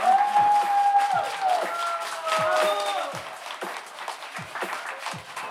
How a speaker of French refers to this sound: Mais avant de rendre l'antenne, eh bien, d'abord, je vais vous dire merci au public qui est venu nous voir en direct. Donc, merci à vous tous. Vous pouvez vous applaudir. On peut vous applaudir.